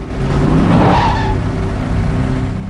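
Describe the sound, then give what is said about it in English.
A police car speeds past, its engine roaring loudly and a whining tone dropping in pitch as it goes by, followed by a steady rumble of traffic noise. No voices. “He stops as a cop car hears past in front of him.”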